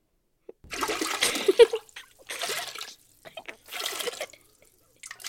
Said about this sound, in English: Water. What does that noise sound like to you, DJ Alvin? It's a beautiful cello. It's really emotional.